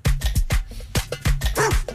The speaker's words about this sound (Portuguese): eu acho que há latidos ao longo da letra